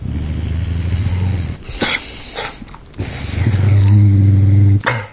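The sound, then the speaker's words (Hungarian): A dog growls in low, rumbling stretches, pausing briefly between them, with a couple of sharper snarls or yelps mixed in; the growling is fairly loud, with no one talking. “Ez egy 40 fős mintán zajlott, és itt szintén különböző szociális helyzetekben tettünk fel morgásokat.”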